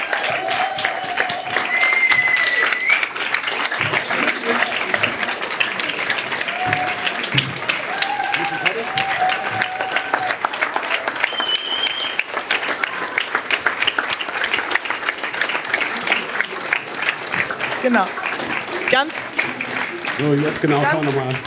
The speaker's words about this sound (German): Einen herzlichen Applaus für die Mentorinnen und Mentoren.